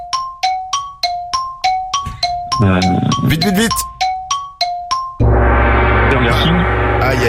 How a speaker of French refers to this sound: Aïe. Oh non. Il y a le gong qui a sonné. Il y a le gong, t'as pas donné la réponse.